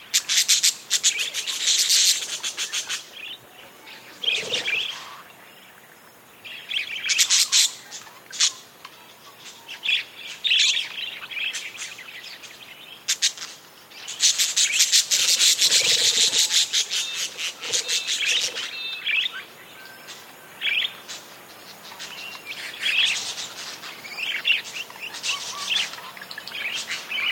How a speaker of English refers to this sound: These wild parakeets wake at dawn, chatter amiably, and then flutter off in groups to feast on seeds.